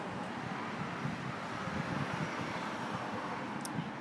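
A steady, continuous wash of road traffic noise, a low rumble under a broad hiss that holds an even level throughout, with no distinct passing vehicles and no voices, heard while sitting outside in the evening.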